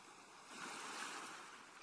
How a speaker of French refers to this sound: Vous appréciez pour quelques minutes encore le bruit des vagues et des mouettes et la douceur de cette mer accueillante.